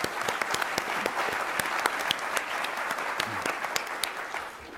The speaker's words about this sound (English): And a round of applause for all of them for putting this together.